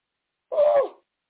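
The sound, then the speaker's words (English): A single voiced yawn on camera, about half a second long, with a breathy, hollow tone that slides gently downward in pitch before trailing off. Silence surrounds it, and nobody speaks. “Oh, I apologize. Never yawn on camera.”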